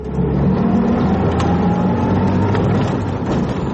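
A field guard's patrol jeep suddenly accelerates near a border canal where migrants cross, its engine giving a loud, steady low rumble and a rising, droning tone, running continuously with no voices.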